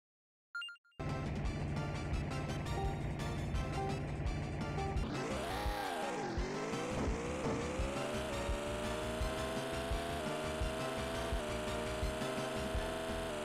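Racing video game audio from the first race of Top Gear 2, played with all upgrades: a steady buzzing engine drone with stacked harmonics, then a sharp pitch dip and rising whine as the car shifts and accelerates, loud throughout with no talking.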